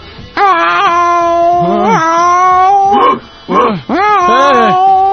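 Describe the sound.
A person imitates a dog, with long wavering howls broken by a few short, sharp barks, loud and continuous over about five seconds.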